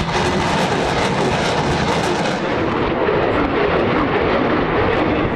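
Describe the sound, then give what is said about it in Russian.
A loud, sustained roar of rocket depth-charge launchers on a naval minesweeper firing to destroy detected sea mines while clearing a fairway, dense and rumbling without a break, booming bursts blending into one continuous heavy blast, powerful, with no voices. “Все обнаруженные мины подлежат уничтожению стрельбой из реактивных бомбометных установок.”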